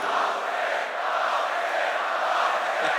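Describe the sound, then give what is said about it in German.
A large crowd outdoors in the rain at a heavy metal concert shouts the word "Laufsteg" together in a loud, dense, sustained roar of many voices that holds steady for about three seconds without a break. “Schreit alle mal Laufsteg!”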